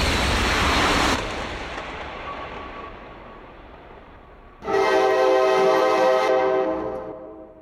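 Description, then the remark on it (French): A loud steam train horn blares suddenly after a rushing, fading roar of trains passing and crossing each other, holding a steady harmonic tone for about two seconds before trailing off. “Et puis là, on entend d'un seul coup un klaxon, je crois que c'est le train à vapeur.”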